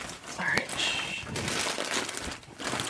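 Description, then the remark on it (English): A chip bag crinkles and crackles steadily for a few seconds as people eat chips, a dense, scratchy rustling with uneven bursts of plastic crunching, and faint voices murmur underneath. “This is all you hear when they're eating chips and stuff. The bag on.”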